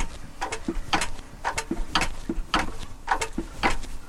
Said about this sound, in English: So now I've pumped up the oil pressure, and now I prime the fuel pump. So pumping away, pumping away, pumping away.